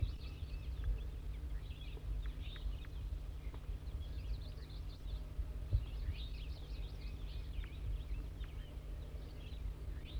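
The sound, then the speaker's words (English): A brown wild bird, either a female or a juvenile, perched in Servsbury, gives a steady run of short, high, buzzy zezer notes. The notes are fairly faint over a constant low rumble, with no talking. “Wild bird's now giving zezer notes.”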